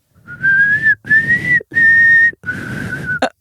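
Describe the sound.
A person whistles a short signal tune of four long, steady notes separated by brief pauses. The whistling is fairly loud, with audible breathy air noise beneath it.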